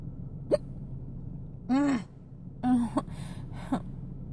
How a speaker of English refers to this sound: Ow. I have painful hiccups.